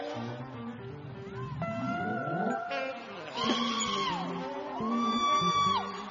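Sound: audience shouting and whooping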